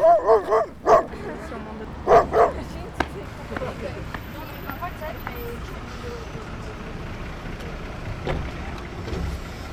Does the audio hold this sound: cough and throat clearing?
no